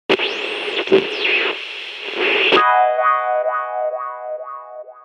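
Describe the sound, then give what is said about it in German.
An electronic soundtrack piece from the film 127 Hours: a dense, distorted wash with swooping tones gives way to a bright, buzzy synth repeating quick pitch glides in a steady rhythm. No voices. “Ich liebe diesen Track. Ich habe ihn schon sehr, sehr oft gehört.”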